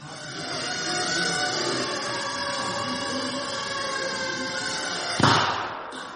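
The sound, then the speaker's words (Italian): A small shaped explosive charge of 3 grams goes off with one short, sharp bang near the end, cutting through a steady, dense background hum that continues before and after. “That little bang is enough to penetrate the skull and destroy the contents.”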